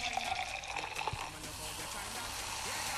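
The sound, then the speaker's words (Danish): A foaming drink is poured steadily into a small wine glass, a continuous splashing and fizzing hiss that runs for a few seconds without pause, with no one talking over it. “Så har jeg lige et lille vinglas, vi lige hælder op i. Dejligt skummende.”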